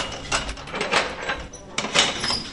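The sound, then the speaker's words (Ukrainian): The heavy metal door of cell 29 in the oldest building of the Kyiv pretrial detention centre (SIZO), about 160 years old, is unlocked and opened, with rattling, scraping clanks in two bursts separated by a brief lull, ending in a sharp metallic clang and grinding. “29-я, увага, відчиняю.”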